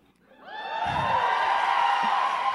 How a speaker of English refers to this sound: Then I tasted that sweet, sweet applause.